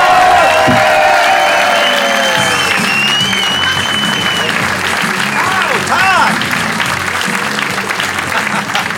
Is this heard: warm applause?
yes